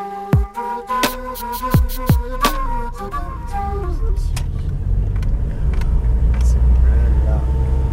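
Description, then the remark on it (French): Steady low engine and road rumble fills the cabin of a moving car arriving in Saumur, France, looking for a parking space near the Loire, growing heavier and more constant, with voices audible briefly near the start. “Alors là, on est en voiture avec … et on est à Saumur.”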